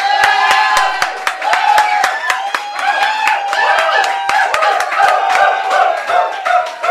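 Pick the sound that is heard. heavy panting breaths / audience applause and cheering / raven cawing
audience applause and cheering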